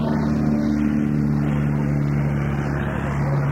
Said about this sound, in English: Yeah, it's Cessna 195, taxing by.